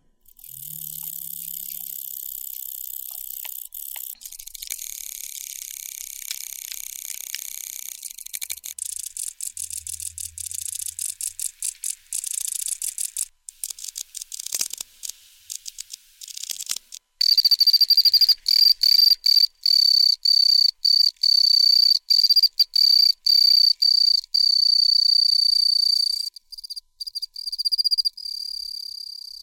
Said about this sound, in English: Yeah, that's a difference in tone, isn't it? Yeah, so the second set of sounds there are representative of the noise that the typical Pacific field cricket makes.